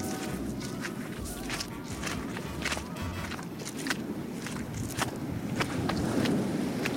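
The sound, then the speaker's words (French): Footsteps crunch steadily across sand in an uneven walking rhythm, each step a soft gritty scrunch, over a constant low rush of distant waves. No voices are heard. “Voilà, on se transporte en dehors de ce studio de l'Agora, de la Maison de la Radio, avec ces bruits de vagues lointaines et ces pas sur le sable.”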